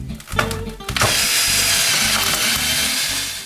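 A power drill whines up and then grinds steadily into a MacBook laptop, drilled by a 9-year-old boy as a prank, loud, with a continuous buzzing roar after a few short starts.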